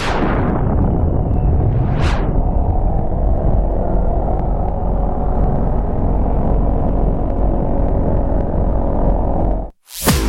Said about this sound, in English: Thunder and lightning on Super Talk Mississippi. Listen up! There is a storm coming!